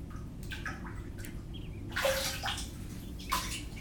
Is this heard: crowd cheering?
no